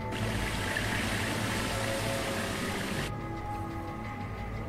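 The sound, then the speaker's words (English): Glacial meltwater pours from the land into the sea in a steady, dense roar that fills the whole clip, with the bright hiss suddenly dropping away near the end, leaving a duller, lower rush. “Glacial meltwaters pour from the land, mingling with the sea and speeding up the thaw.”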